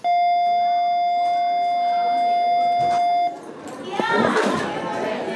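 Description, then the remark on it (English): A steady, loud electronic dismissal bell rings for about three seconds, then cuts off as a lively crowd of students' voices, speaking 88 different languages, rushes in, chattering and shouting over each other in the school hallways of the Alief Independent School District on Houston's southeast side. “At the dismissal bell, a United Nations of students, 88 different languages in all, pours into the hallways.”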